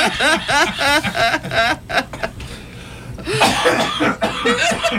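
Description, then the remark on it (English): A person in a studio breaks into a loud coughing fit, rapid harsh bursts tangled with wheezy, laugh-like gasps, briefly pausing for a ragged breath before coughing again, continuous; the coughing leaves him red-faced and lightheaded. “I actually did get lightheaded from that coughing.”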